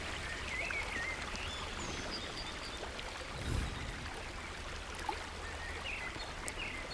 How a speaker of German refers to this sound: Das Rauschen des Wasserfalls wird immer lauter, je länger du dem Pfad folgst. Noch ist kein Bach, kein Wasser zu sehen.